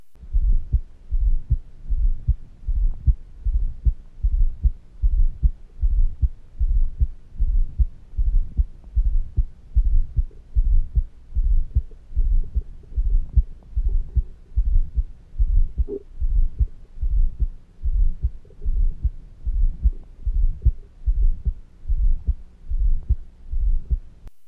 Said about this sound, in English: Heart sound originates from vibration of the left ventricular wall, with atrial systole overcoming the resistance of the left ventricle, forcing blood in before the next systolic impulse.